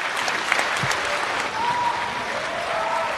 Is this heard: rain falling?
no